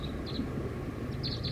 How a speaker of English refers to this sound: I see the wild bird perched up in the tip top of a tree, giving soft song, pointed at the wild bird.